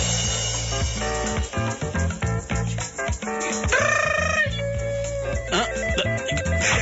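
A mobile phone rings loudly with a rooster-crow ringtone: busy, buzzy electronic tones with repeated crowing-like calls, playing continuously for several seconds with no talking.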